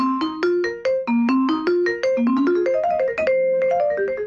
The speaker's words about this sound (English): And then under all of the bars, there's a piece of felt, which if I let my foot off the pedal, the felt actually muffles the bars, and that stops them from ringing like this.